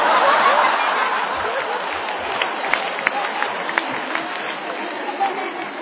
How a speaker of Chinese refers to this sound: 您还真厚道，还鼓掌是吗？